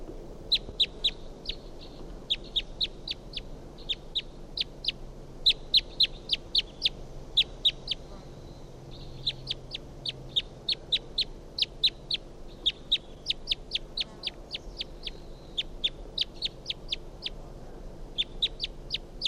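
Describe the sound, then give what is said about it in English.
A wild bird perched in a pine tree calls repeatedly, giving sharp, high-pitched clicking notes in rapid, fairly steady runs with brief pauses between, set over a low, constant background rumble. No one speaks. “So recording that bird again.”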